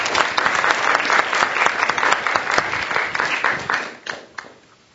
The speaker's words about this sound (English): Let's give them a round of applause for volunteering.